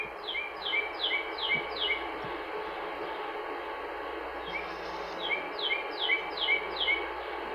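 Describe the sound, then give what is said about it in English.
A northern cardinal sings two bursts of about five quick, clear downslurred whistles, separated by a short pause, at dusk in a backyard, over a steady low background rumble and hiss. “This is the northern cardinal, and this is an example, a great example of a bird that's around a lot”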